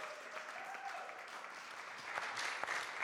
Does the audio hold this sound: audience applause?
yes